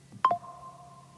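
phone notification tone

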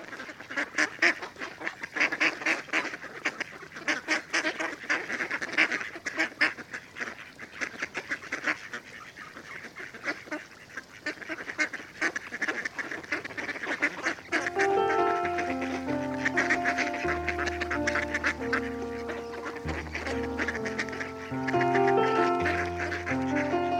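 mallard ducks quacking

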